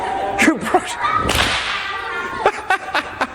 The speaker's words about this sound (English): Oh, if you ever do learn to use a whip, very important thing, make sure you wear eye protection. Because if that little bit of string hits you in the eye going at the speed of sound, it's going to sting.